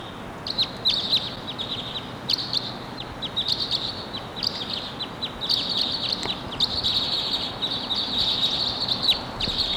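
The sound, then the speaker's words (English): Two male crossbills call in repeated bursts of sharp, high, insistent chip notes. The notes come in quick clusters over a steady background hiss, with no voices. “Two birds. And they're both males.”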